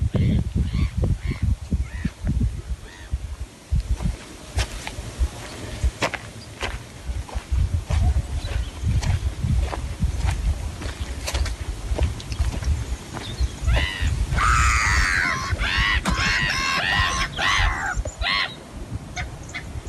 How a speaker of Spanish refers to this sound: Hemos escuchado pasos, hemos escuchado el viento que se mete mucho por ese teléfono también o por esa grabación, hemos escuchado las aves que estaban un poquito alborotadas al final también, ¿eh?